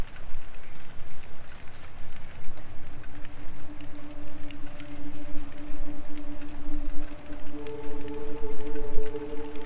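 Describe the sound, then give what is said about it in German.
A soft synth pad with a light filter fades in with steady sustained tones over a dense hiss of recently recorded rain, and higher held notes join near the end, thickening the chord. “Dazu pack mal wieder einen leichten Filter. Wieder ein leichtes Synthpad dazu.”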